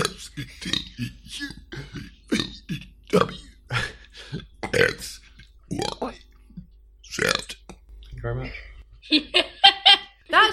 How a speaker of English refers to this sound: I can burp the alphabet. In one burp? No, in 26 burps.